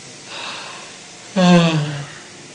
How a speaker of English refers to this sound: Then there's Devadatta air, which is the air of yawning when you're relaxing, like this gentleman here was just yawning. It helps you to make you feel relaxed.